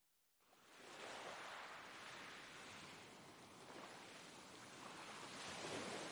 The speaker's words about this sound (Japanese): 小さな浜辺にさざ波が寄せては返している。